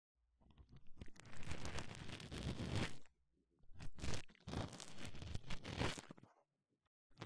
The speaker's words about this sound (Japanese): まずはハサミをコシコシとこすり上げる。